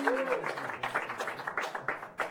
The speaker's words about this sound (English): That's a little sympathy applause.